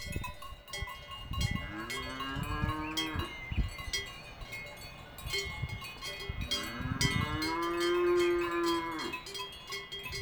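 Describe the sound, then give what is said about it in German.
Many cowbells clang continuously and loudly from a herd of cattle near a terrace, with two long, drawn-out moos rising through the ringing, one early and one later. “Ihr hört vielleicht ein bisschen Moon, ihr hört aber vor allem die ohrenbetäubenden Glocken, die man diesen Kühen umhängt.”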